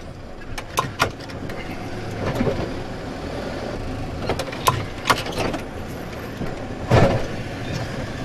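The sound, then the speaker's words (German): A small winter-service vehicle drives along during heavy snowfall with a steady engine rumble, broken by several sharp mechanical clanks and knocks. No one speaks. “Das ist früher alles mit Unimog gemacht worden. Also deutlich größeres Auto.”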